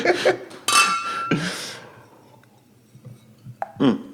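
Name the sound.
glasses clinking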